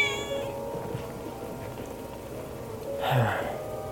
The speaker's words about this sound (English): Right there. There's the next white kitty.